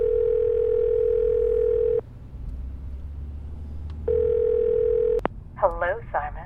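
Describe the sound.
A telephone ringback tone purrs twice, each a steady, buzzy, mid-pitched hum lasting over a second with a quiet gap between, then a click as the line picks up and a voice begins speaking.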